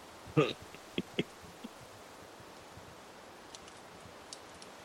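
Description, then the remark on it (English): Leaves rustling in the wind through the trees: a few sharp, crackly crunches in the first second and a half over a soft steady hiss, then only faint scattered ticks for the rest. “Ghoul hears the wind through the trees, rustling leaves.”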